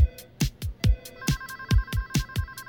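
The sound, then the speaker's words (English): Telephones ring at a 911 emergency call center in Koreatown in a fast, steady pulsing pattern, fairly loud, with a second ringing tone joining partway through. No one speaks. “Emergency call center, Koreatown. 911, what's your emergency? I became a phone jockey for 911.”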